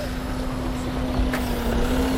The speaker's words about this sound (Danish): For nu kan jeg høre, at der er en motor, der bliver tændt.